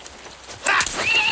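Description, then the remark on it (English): Horses being set loose: a horse whinnies loudly and shrilly, its call rising and wavering, while hooves clop amid a rush of commotion. “Why is he loosing the horses?”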